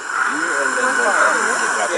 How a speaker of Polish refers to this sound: ale już pośród gadów do co bardziej głośnych należy zaliczyć warany z Komodo. Spotkać je można wyłącznie na Komodo, gdzie dorastają do 3 metrów długości i ważą do 90 kg.